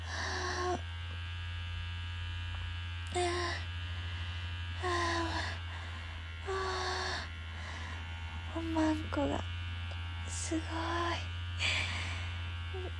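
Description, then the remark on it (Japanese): A sex toy vibrator buzzes in a steady, low, continuous drone for the whole stretch, even throughout, while held against the clitoris; a voice speaks and makes short vocal sounds over it at intervals. “おもちゃ使う前にいろんなとこ手で気持ちよくしなくて、いきなりおもちゃをクリトリスに当ててもこんなに気持ちいいんだ。”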